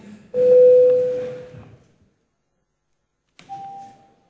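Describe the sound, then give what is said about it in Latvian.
Two electronic chime tones ring out, a loud sustained ding lasting over a second, then a pause and a shorter, softer second tone: a parliament's voting call bell, rung before a vote on a deputy's proposal. “Lūdzu zvanu, balsosim par sesto deputāta Ingūna Sudrabas iesniegto priekšlikumu.”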